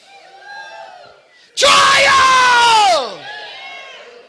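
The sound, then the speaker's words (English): A loud, sustained yell like a triumphant war cry bursts out for about a second and a half, its pitch sliding downward at the end, with murmuring voices before and after. “Ruah is to shout, to give a blast or a war cry.”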